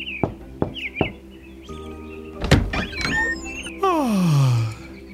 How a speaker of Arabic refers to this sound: المهم أنه حين وصلنا إلى هناك، طرق جحا الباب وهو في قمة النشاط والحماس، ففتح له بلال الباب وهو يتثاءب.